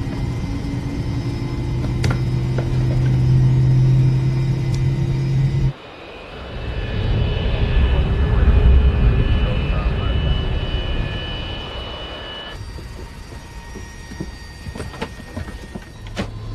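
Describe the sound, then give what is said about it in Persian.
A steady, loud roar of the jet engines of airliner flight Cactus 1549 departing LaGuardia, with a low rumbling drone and whine, swelling in the middle section before easing to a softer hum. “بارش لکواردیا کاکتوس 1549 هستم، آماده پروازی.”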